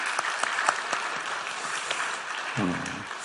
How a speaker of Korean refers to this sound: 예. 우리 박수로 한번 영광 돌리겠습니다.